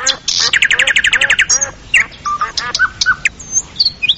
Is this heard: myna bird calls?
yes